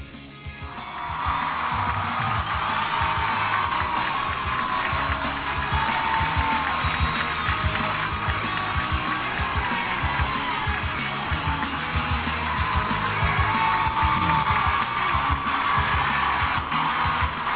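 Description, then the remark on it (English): A crowd applauds and cheers in a steady, dense roar of clapping mixed with shouts and whoops, used in the intro of the show In the Net Live, holding loud and even for the whole stretch without fading. “It's a new intro, but we kept the applause.”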